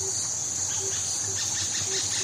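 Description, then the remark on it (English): Tiny, high-pitched alarm calls, the animals' response to a raptor, chirp in quick, scattered bursts over a steady insect-like hiss, fairly faint, with a few short low tones pulsing underneath. “And then I was lucky enough to see them with a real eagle owl, and when I saw they made exactly the same noise, I realised I had stumbled upon their actual raptor response.”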